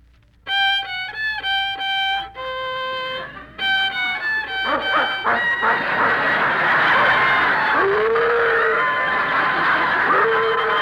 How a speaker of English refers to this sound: How do you like that? Hey, listen. There's another violinist in this hotel. That's the dog.